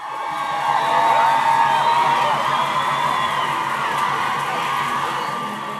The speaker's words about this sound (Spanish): El eco de miles de mujeres marchando y gritando a todo pulmón se escuchaba por todas partes.